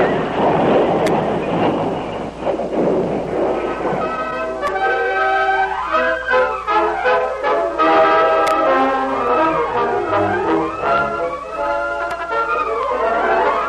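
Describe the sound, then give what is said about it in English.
A loud rumbling crash of a heavy stagecoach, whose left front wheel flew off on a sharp turn of a trail, gives way to a long stretch of shrill, wavering squeals as frightened horses scream over continuing clatter while the stage drags and goes over an embankment, intense throughout. “The horses squealed in terror when the heavy vehicle dragged.”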